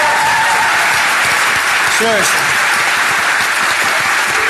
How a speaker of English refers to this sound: So give her a big round of applause. Yeah, seriously. Seriously.